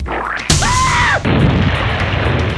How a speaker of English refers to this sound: They say you could hear the explosion 5 miles away.